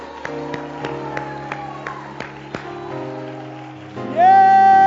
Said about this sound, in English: Oh, somebody clap your hands and shout to God with a voice of triumph.